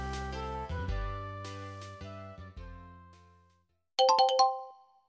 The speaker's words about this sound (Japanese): チャイムの合図でスタートするよ。